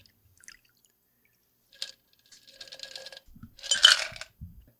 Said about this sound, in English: I'm pouring. All right.